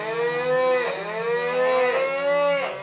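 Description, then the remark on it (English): Continuous high-pitched mooing with rich harmonic tones, rising and falling in long drawn-out calls, loud, with no talking over it. “They're mooing so high you'd think there was a helium duct underneath them.”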